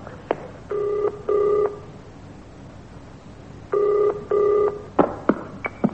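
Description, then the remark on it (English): A telephone rings in two double-ring bursts with a pause between them, followed by a few sharp clicks like a handset being handled, the phone covered with a handkerchief. No one speaks. “I'll cover the phone with a hanky like that bloke did on the telly.”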